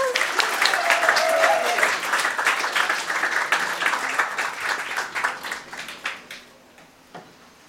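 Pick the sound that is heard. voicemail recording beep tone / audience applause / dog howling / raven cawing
audience applause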